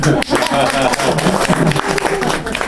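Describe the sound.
A crowd applauds steadily for a few seconds, a dense, even patter of many hands clapping, with voices calling out over it.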